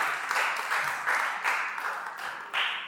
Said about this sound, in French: on peut les applaudir par in absentia, comme on dit. Merci à vous.